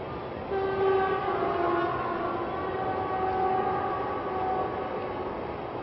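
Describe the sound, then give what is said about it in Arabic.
A train rumbles steadily past while its horn sounds a long, sustained blast over the clatter, loud throughout, with no voices. “دايما القطر يذكرني القطار بالرحلة إلى الدار الآخرة، قطار العمر.”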